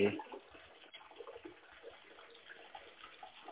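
Steady trickling and splashing of running water from an indoor waterfall-like water feature in a home library, continuous, with no voices.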